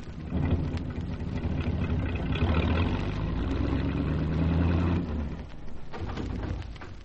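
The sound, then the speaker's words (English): A car engine runs steadily as the car is brought onto the road, with a low, rumbling drone and dense mechanical texture, loud throughout, easing off slightly near the end. No voices are heard. “I'll just get the car on the road.”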